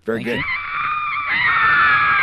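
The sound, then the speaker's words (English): A sustained, high-pitched scream from women rises after a brief voiced onset, holding loud and steady for about two seconds with a slight upward shift near the end. “Yes, that's all the women screaming God. For me in the background, I guess.”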